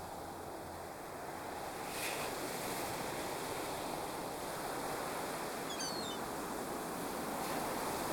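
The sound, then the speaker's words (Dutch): A steady wash of sea surf rolling onto the shore, with a wave surging louder around two seconds in and then a continuous hiss of breaking water. No voices. “En dat is de zee. Dan stap ik in de trein en dan ga ik naar de zee.”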